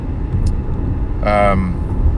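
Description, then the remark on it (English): A steady, low rumble of a car's interior while driving to a game fills the whole moment, with a brief voice-like hum rising partway through before the road drone carries on alone. “So, just me and you chatting in the car today.”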